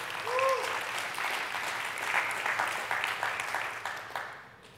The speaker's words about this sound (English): Come on, somebody give the Lord a hand clap of praise.